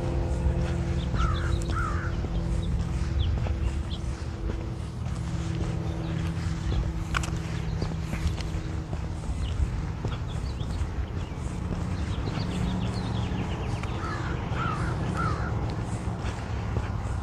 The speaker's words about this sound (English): Nice, quiet, calm morning this morning. It's really quite lovely. There's some crows.